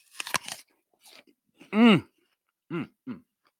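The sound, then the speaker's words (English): A crisp, crunchy bite into an apple, with a few sharp cracking snaps, followed by quiet chewing and several short, voiced hums of approval. “I know you're all waiting for the crunch here. Let's check it. Let's do a little bite.”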